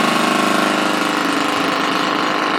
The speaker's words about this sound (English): from a jackhammer. And you tell me, which would you rather the Lord use on your heart? Something that's just smooth, very little effort, or that?